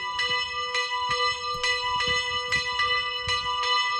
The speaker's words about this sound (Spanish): Pues la ermita de San Marcos vuelve a contar con una de sus campanas. Ya sabes que el 26 de abril del año pasado, un día después de la celebración de San Marcos, la ermita amaneció sin campanas.